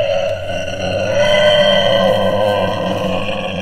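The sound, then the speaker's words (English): A hairy pig-man creature standing on two legs like a man lets out a loud, sustained guttural scream, harsh and strained with a steady droning pitch, holding at full intensity for several seconds without any talking. “This hairy pig was part man. And then it screamed.”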